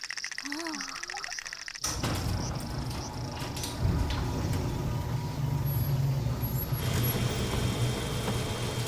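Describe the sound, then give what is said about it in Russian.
Yukari's car engine starts up loudly after a brief quiet moment and keeps rumbling steadily, a continuous low, rough drone of the car driving that lasts to the end. “Машина Юкари.”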